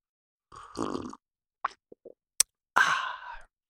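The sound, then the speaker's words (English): A sip of hot coffee: a short slurp, a few soft gulping clicks, a sharp tap like a cup being set down, then a breathy exhale of satisfaction. No one speaks. “And I'm going to pause here for a dramatic sipping of coffee.”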